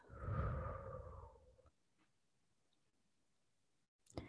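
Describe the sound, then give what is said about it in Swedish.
A single deep, breathy exhale out through the mouth after a breath in through the nose, fairly loud, lasting under two seconds before fading into near silence with a faint click near the end. “Och jag vill att du tar ett djupt andetag in genom näsan och ut genom munnen.”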